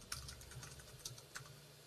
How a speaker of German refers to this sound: Das Tippen noch. Total parat. Aber ich finde es super, so ein bisschen atmosphärisch.